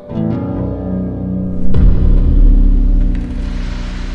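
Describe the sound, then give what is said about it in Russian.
A low droning tone gives way to a sudden, thunderous roar from a stone column struck by a fist, booming loud and rumbling deeply for a couple of seconds before slowly easing off. “В этот момент из колонны раздался ужасающий силой гром, от которого, казалось, лопнула оболочка Вселенной.”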